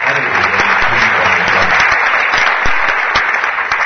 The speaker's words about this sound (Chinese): 那我们的通知大家要参加活动的时间非常的短，但是你看我们的力量非常的大，我们只有透过网络的宣传，然后用普卡的传递今天到现场的人也是坐了汪汪汪，所以大家是不是给自己一个掌声。